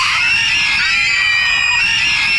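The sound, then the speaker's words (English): A crowd of people screams together at full volume on instruction to scream as loud as possible, a loud, sustained, shrill wall of overlapping voices that holds steady for a couple of seconds without pause. “Everybody scream as loud as you possibly can.”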